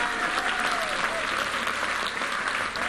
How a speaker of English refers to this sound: I think we should stand up and give him a big clap.